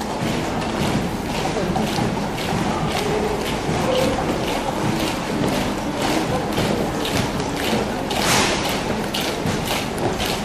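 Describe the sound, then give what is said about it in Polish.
A German military column marches in step during a peaceful demonstration, many boots tramping in a steady, regular rhythm. The crunching beat stays dense and loud for the whole stretch, with a rough wash of noise underneath. “Nagle w atmosferę pokojowej demonstracji wkradł się miarowy krok niemieckiej wojskowej kolumny.”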